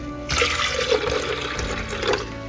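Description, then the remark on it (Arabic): Half a cup of water rushes and splashes steadily into a blender holding a cup of powdered milk and a cup of sugar, for about two seconds, a continuous gushing pour with no one speaking. “طبعا بدأنا أول حاجة وضعنا الحليب البودرة كوب حليب بودرة في العصارة، وكوب سكر في العصارة، نضيف لهن نص كوب ماء.”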